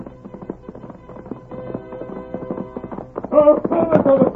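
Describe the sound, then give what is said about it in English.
Rapid, rhythmic hoofbeats of a galloping horse grow steadily louder as it approaches, ending loud, with a sustained tonal musical backdrop underneath; the Lone Ranger riding back on his horse. “Look, there he comes. He's riding back. Look at that horse come.”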